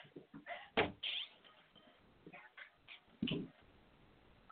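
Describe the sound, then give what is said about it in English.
A cat meows a few times in a house, short cries mixed with a couple of thumps and knocks of household clatter, with no one talking. “I got the cat meowing.”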